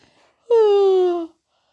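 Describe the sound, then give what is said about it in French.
A single drawn-out yawn for Petit Ours, a little bear in a Christmas story, sliding downward in pitch for under a second before stopping, with quiet around it and no words spoken. “Petit Ours bâilla.”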